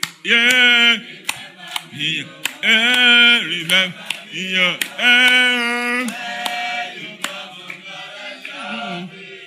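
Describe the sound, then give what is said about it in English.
A voice sings a melodic line during church praise and worship while sharp hand claps keep a steady beat underneath, the claps crisp but quieter than the singing. “Come on, clap.”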